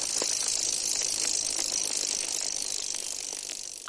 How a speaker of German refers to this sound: am Wegrand in der Nähe des Waldes und sieht zu, wie immer wieder Radfahrer an ihnen vorbeidüsen. Manche in Trainingsoutfits, schwitzend und schnaufend, andere fröhlich pfeifend, bepackt mit Picknickdecke und Rucksack.